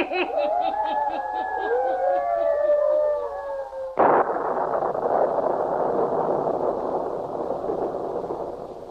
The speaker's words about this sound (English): Storming. Will it never let up? Matter of a small electrical storm should not trouble you all, sir.